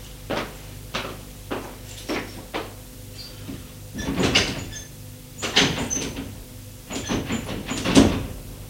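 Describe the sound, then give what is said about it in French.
A door handle is tried repeatedly on a locked door: a series of short clicks, then louder rattling jolts as it is shaken harder, with no voices. “La porte est bien fermée.”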